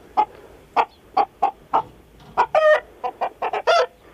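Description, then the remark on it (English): A hen cackles after laying an egg: a run of short, sharp clucks rising into drawn-out, squawking calls, the typical egg-laying song, loud and alone with no voices. “This is chicken number two from the Three Counties.”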